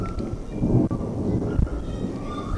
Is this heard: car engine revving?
no